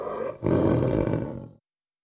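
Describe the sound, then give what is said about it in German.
A tiger lets out a loud, deep roar, a brief rumbling lead-in followed by one sustained, throaty blast that cuts off abruptly after about a second. “Nein, das ist ein Tiger.”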